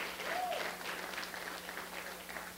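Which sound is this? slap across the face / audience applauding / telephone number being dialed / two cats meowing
audience applauding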